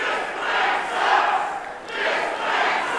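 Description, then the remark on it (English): A large crowd at a town hall meeting held by Sessions roars and shouts in loud, sustained waves after he says the health plan gives people the opportunity, but not a mandate, to get health insurance. The noise swells and dips a few times with no single voice standing out. “Crowd response?”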